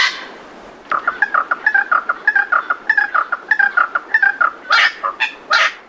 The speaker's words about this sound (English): So that's a little wattle bird. What's so good about them? Well, I love that call.